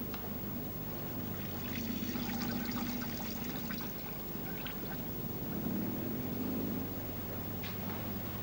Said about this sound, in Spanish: Con paso maquinal se dirige al cuarto de baño. Enciende la luz, entra sin cerrar la puerta y le oímos orinar.